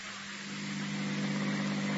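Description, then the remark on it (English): A new car's engine runs with a steady, droning hum under a wash of broad noise as the car is driven, holding an even level for the whole stretch with no voices. “how do you like the new car, Mary? Only $18,000.”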